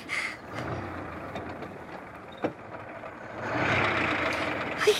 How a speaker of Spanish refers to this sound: ¡Ahí están! ¿Oyes el coche? Sí, sí. Ya saldremos de dudas. Ay, felizmente ya tenemos al médico en casa.